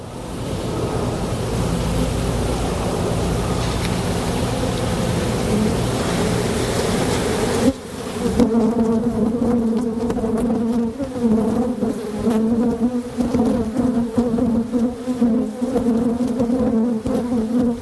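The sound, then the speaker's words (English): A dense swarm of bees at a beehive being inspected hums steadily, then around the midpoint the buzzing shifts into a sharper, more agitated, angry drone with distinct tonal bands as the beekeeper sweeps away a good number of the bees, continuing loudly with no voices present. “Bees. Tim is inspecting his beehive. They were calm, and then they get a little angry and a little more intense.”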